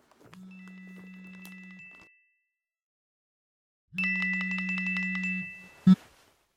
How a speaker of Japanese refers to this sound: あ、時間来たら電話来るんだった。